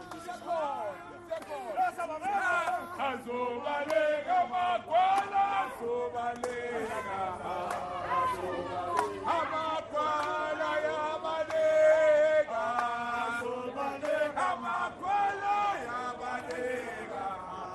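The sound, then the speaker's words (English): A loud crowd of Economic Freedom Fighters party members chants and shouts together at the entrance of Hillbrow Clinic in Johannesburg, many overlapping voices rising and falling in a continuous, energetic clamor for the whole stretch. “These are members of the Economic Freedom Fighters, EFF, party as they took over the entrance of Hillbrow Clinic, inviting foreign nationals to come in.”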